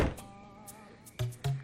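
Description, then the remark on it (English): A person slowly and quietly closes a door, a soft knock and faint sustained creak giving way to two muffled thuds as it settles into the frame. No voices. “Slowly, he closes the door.”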